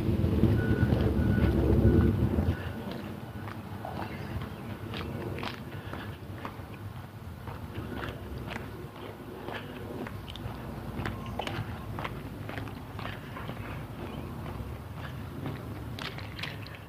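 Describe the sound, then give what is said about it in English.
Steady, rhythmic footfalls thump on a treadmill belt over a continuous low mechanical hum, with a heavier rumble in the first couple of seconds. No one speaks. “Yes, it's on a treadmill.”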